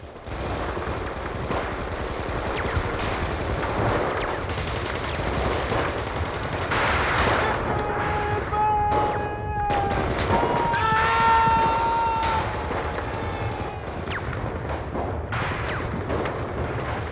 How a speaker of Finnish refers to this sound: Rykmentti hyökkäsi bunkkerilinjaa vastaan, ja kauempaa oikealta kuului naapurirykmenttien hyökkäyksen melu. Kesäisen aamupäivän ilmassa vavahteli valtavan melskeen kaiku.